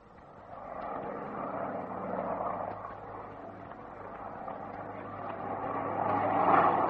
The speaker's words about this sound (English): This morning, two huge four-engine planes, the biggest we've ever seen, flew at treetop height over us for nearly 2 hours.